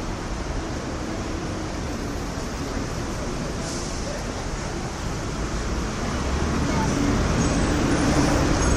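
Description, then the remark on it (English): Steady city street traffic on a rainy day by Madame Tussauds and Ripley's Believe It or Not, a little quieter than usual because of the rain: a constant, broad hiss of wet road noise and engines that never pauses, swelling a little louder toward the end. “It's a little quieter than usual because it's so rainy today.”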